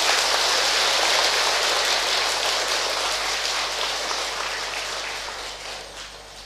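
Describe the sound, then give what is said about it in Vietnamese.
A loud, dense round of applause from many hands at Giác Ngộ Pagoda, celebrating more than 650 people joining the Buddhist community: a steady crackling wash of clapping that holds strong and then gradually thins and fades toward the end. “Hãy ăn mừng bằng một tràng vỗ tay thật lớn.”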